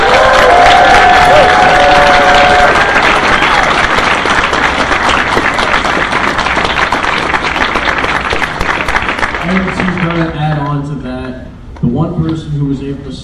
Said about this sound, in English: Everybody, give him a huge round of applause, please.